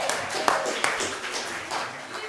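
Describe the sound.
An audience cheers and claps for the winner of a contest, a dense wash of applause and voices with a couple of sharper claps standing out early before the noise settles into a steady roar.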